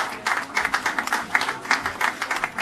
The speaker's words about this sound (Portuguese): Os aplausos de esperança depois da primeira vacinação em Portugal marcavam o início de um longo caminho.